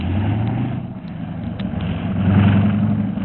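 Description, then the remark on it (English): A steady, low rumble of two car engines idling outside in Baghdad, with a faint rise in pitch early on and a slight swell in loudness toward the end, no voices. “Two cars are out there, Mr.”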